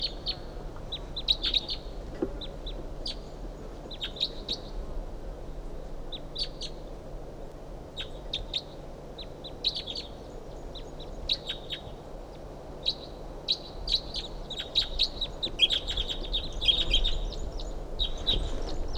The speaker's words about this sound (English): That bird's about 50 yards off in the top of us, medium-sized ponderosa pine.